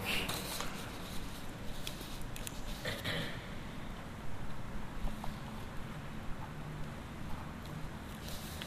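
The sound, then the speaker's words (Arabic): Steady rustling of paper as someone writes a word while showing a class how to write it, with scratchy handling sounds and brief louder crinkles over a constant low rumble, no voices. “أكتبها عندكم، ما أريد أن أخرب أوراق.”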